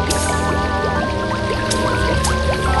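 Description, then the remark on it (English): Water pours steadily into a large kettle for a few seconds, a continuous splashing gush with a faintly rising, hollow tone as the vessel fills. “That evening, the pig sat snug as a bug in a rug in her little brick house and boiled up a great kettle of water to stew some meat for supper.”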